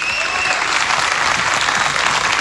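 A crowd applauds steadily in memory of radio man Manuel Araneda, a posthumous tribute opening the festival's 25th edition; a dense wash of many hands clapping at an even, loud level throughout, with no voices standing out above it.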